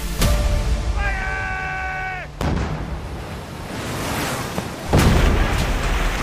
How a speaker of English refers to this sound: But there was still the mayhem of battle, cannons and muskets being fired at close range.